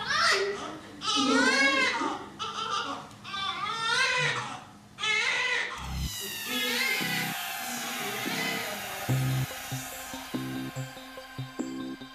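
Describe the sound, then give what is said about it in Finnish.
A newborn baby cries loudly in a series of short, wavering wails with brief breaths between them. Partway through, the crying gives way to a different steady, tonal sound. “Hän ei osaa oikeastaan tehdä mitään muuta kuin parkaista.”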